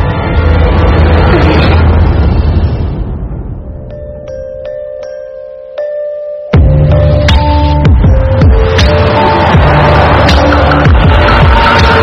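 A car that has been driven around aimlessly for hours rolls along the road with a steady engine rumble and tire noise that fades out, a sustained tonal hum fills the gap, then the loud road noise returns abruptly.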